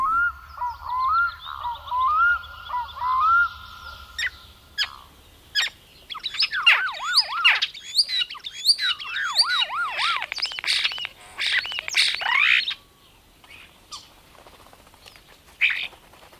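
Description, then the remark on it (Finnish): A starling recorded years ago in Savonlinna, Finland, sings a busy, chattering song of whistles and clicks, repeatedly imitating the rising and falling wail of a fire engine siren in looping, swooping phrases, fairly loud. “Tämä kottarasäänite on vuosien takaa Savonlinnasta. Se on Veikko Neuvosen tekemä ja siinä kottarainen aivan selvästi matkii paloautoa.”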